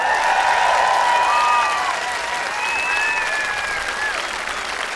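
A concert crowd in Cologne applauds steadily for about five seconds, welcoming a new keyboard player. It is a dense wash of clapping, with a few high, thin whistles or cheers rising above it, before the clapping eases slightly.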